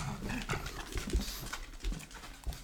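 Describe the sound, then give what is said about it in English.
An older pug with dementia, barking at shapes and shadows in a house around 3 a.m., lets out a handful of short, gruff barks at uneven intervals, not loud, with some snuffling and panting between them and no one talking. “Every morning, our older pug wakes me up about 3 a.m.”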